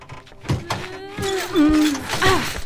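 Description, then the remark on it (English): A couple of dull thumps against a door, followed by a long, wavering strained groan and scraping as something wedged in the doorway is pushed and pulled through, with a heavier bump near the end. “Oh, we got wedged in the door.”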